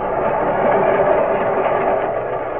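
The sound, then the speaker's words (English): The Freedom Train speeds past in a continuous, loud rumble, its churning noise steady throughout with no voices. “Yes, here too the Freedom Train brings again the spirit of Washington, Jefferson, Lincoln, and Lee.”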